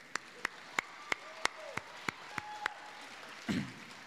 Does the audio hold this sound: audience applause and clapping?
yes